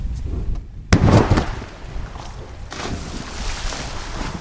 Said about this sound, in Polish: I chlupnął. To był skok. To był skok z bloba do wody.